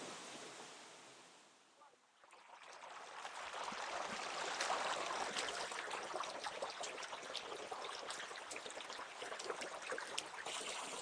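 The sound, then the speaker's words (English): Water running slowly over white limestone and descending into a deep turquoise pool at the base of a crevice about 20 metres below the surface, a steady hiss and splash that dips briefly near the start, then swells and stays full. No one speaks. “We're still on top now, some white limestone, which the water's slowly going along and it's descending down into a turquoise pool at the base.”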